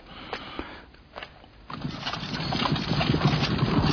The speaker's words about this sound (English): Loch Dan, the edge of Loch Dan. You see what she's riding. We see how he brings this horse to a stop.